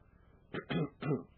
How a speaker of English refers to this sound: Excuse me, folks. I hate to cough on you.